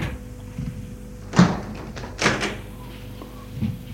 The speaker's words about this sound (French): La porte s'est ouverte.